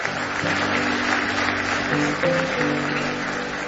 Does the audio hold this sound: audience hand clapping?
yes